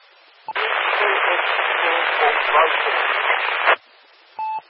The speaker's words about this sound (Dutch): Ik laat de microfoon even iets langer los, want heel in de verte een station met heel veel ruis waarvan ik niet de call heb meegekregen. Probeer het nog een keer.